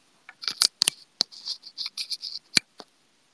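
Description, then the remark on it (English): Fast typing on a new keyboard at about 90 words per minute: a quick, uneven flurry of crisp key clicks, fairly quiet, with a few sharper keystrokes standing out. No one speaks. “何の音? キーボードの音です。新しくね、昨日届いたキーボードです。”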